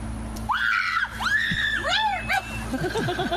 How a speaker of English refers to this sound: So you'll have to watch the video to see why she screams. It's so good.